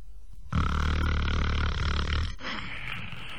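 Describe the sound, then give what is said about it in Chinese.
A voice mimics the snoring of Lu Zhishen coming from a room at night: a huge, rumbling snore, one long loud growling inhale lasting about two seconds, followed by a softer, breathy exhale, dramatic. “天黑了，这俩和尚到这屋来就寝呢，往这一走，离这屋还有四五十步呢，就听见从这屋子里边传出来阵阵鼾声。”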